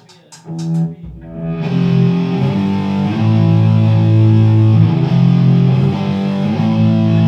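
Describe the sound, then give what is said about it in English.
A heavily distorted electric guitar plays sustained chords after a few brief muted strums, the gritty overdriven tone loud and continuous, with no talking. “Is my distortion too loud?”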